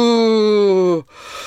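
A loud yawn at the start of the Extra Mile show: a long voiced groan sliding slowly downward in pitch for about a second, then trailing off into a breathy exhale.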